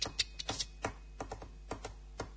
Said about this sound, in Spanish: Tienes delante un chico que golpea la tapa del bolígrafo.